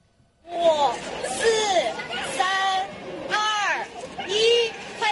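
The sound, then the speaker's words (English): A crowd of voices shouts together in loud, rhythmic bursts, chanting a countdown at a flash mob where groups of young mothers breastfeed their babies in front of a theater in Guiyang, southwest China. Each call rises and falls in pitch over a steady murmur of chatter. “With a countdown shout from the crowd, groups of young mothers started to breastfeed their babies in front of a theater in Guiyang of southwest China.”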